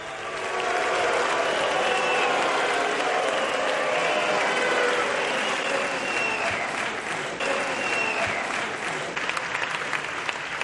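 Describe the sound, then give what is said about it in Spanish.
At a Socialist Party congress in Castilla y León, attendees receive Óscar López, former regional party secretary, with continuous applause mixed with boos and scattered shrill whistles, loud and sustained for the whole stretch without letting up. “yo he visto ahí y he escuchado aplausos, pero por un momento también he escuchado más abucheos y pitos que aplausos.”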